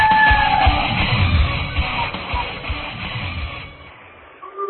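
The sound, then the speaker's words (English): A loud crowd at a high school basketball game cheers and yells steadily, with sharp rhythmic thumps of a bouncing ball cutting through the roar before the noise drops off near the end. “the swish of the Nets, bounce of the ball, and amped up crowd can only mean one thing.”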